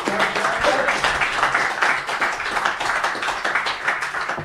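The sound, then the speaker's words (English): Sustained audience applause, a dense crackle of many hands clapping at once, holding steady and fairly loud for several seconds without anyone speaking over it. “Yep, first class, round of applause.”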